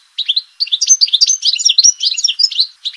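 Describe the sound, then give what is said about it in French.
A European goldfinch, a small songbird colored red, yellow and black, delivers a fast, continuous twittering song of bright, liquid trills and tinkling notes, clear, with no voices or other sounds around it. “Ça, c'est le chant recherché du chardonneret élégant, un petit oiseau haut en couleur, bariolé de rouge, jaune et noir, braconné depuis des siècles et quasiment éteint en Afrique du Nord.”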